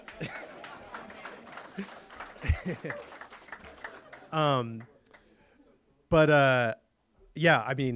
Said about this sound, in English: So I grew up in San Francisco to my lovely, lovely mom right there. Applause, please.